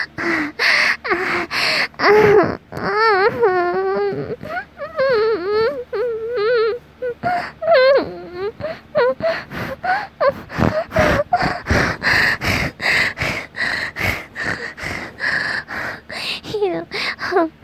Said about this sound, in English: When I breathe heavy, I tend to make that sound. I don't really know what to call it. Maybe purring?